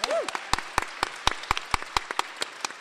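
An audience applauds, with sharp individual claps standing out over a steady bed of clapping. A brief voice is heard at the very start.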